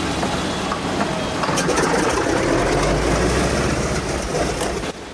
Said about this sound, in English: The B-17's propellers begin to spin into action, sending out a trail of grey smoke.